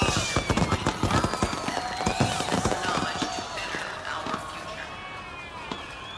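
Fireworks pop and crackle in a rapid, dense burst at a Night Expo show, with whistling streaks rising and falling over the bangs, then thin out as a crowd murmurs.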